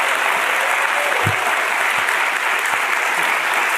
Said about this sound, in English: Was I not supposed to clap?